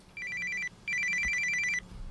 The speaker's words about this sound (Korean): 조용했던 남편의 손전화기가 불안한 소리를 냈습니다. 좀 보니까 뭐 한 10시 이제 넘어가고 막차 아 이젠 빨리 돌아가야 되겠다 이럴 때였는데 갑자기 막 이제 전화가 오는데 이제 집에 있는 딸인 거예요.